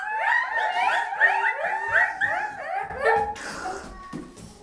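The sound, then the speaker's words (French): Seagulls calling on a beach in a rapid series of high, wavering cries that rise and fall, tumbling over one another for about three seconds before giving way to a soft rushing noise. “Le bruit des mouettes.”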